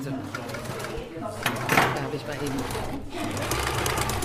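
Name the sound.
sewing machine stitching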